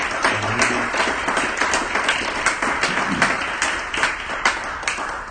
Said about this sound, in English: Come on, let's give God another hand clap of praise.